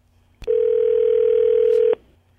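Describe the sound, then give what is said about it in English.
A click, then a steady, loud telephone tone held at one mid-low pitch for about one and a half seconds as a phone call is placed, cut off by another click. No one speaks. “Well, let's just give him a call.”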